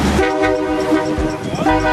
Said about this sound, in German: Das lauteste Fahrrad der Welt hupt mit 178 Dezibel.